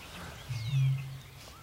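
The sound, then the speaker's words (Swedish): A Eurasian bittern gives a single deep, resonant boom out in the reeds of a lowland lake on a still, windless early-summer evening, close enough that its in-breaths can be heard: a low foghorn-like hoot swelling and fading over about a second, with faint bird calls drifting above. “Men rördrommen har intagit solistrollen.”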